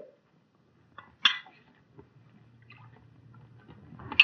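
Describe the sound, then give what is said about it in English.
Champagne is poured into a glass: a bright glassy clink, then a soft, steady gurgling trickle of liquid, ending with another sharp clink of glass. No one speaks. “Here's the champagne, Mr. Manfield. Oh, yes. Thank you, Joe. Shall I pour, sir?”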